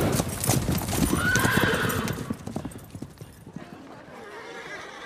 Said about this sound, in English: Cole's horse turns and gallops into the woods.